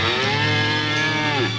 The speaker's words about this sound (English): Who brought that cow in here?